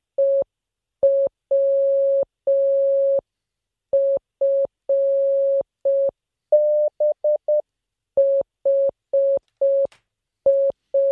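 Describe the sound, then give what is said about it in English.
Morse code beeps from a single steady tone, keyed in a mix of short dots and longer dashes, with a quick run of rapid dots midway. Clear, with no voices. “Well, if you don't know Morse code, this is going to be hard.”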